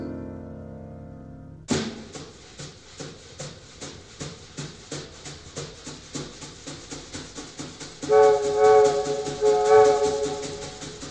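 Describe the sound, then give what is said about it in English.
A band imitates a moving train: after a sustained opening chord, a steady chugging rhythm of brushed beats drives forward, and brassy whistle-like tones rise over it near the end. “My, listen to that rhythm train, boys.”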